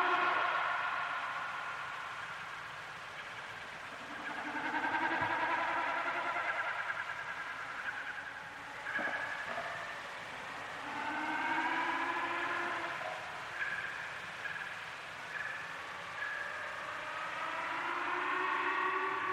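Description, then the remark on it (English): Snipe display sound, made by the vibration of the displaying birds' feathers: a wavering, bleating hum that swells and fades in repeated bouts of a few seconds each, with quieter pauses between and no talking. “when the birds are displaying, they create this sound, and there's something just weird and magical about it.”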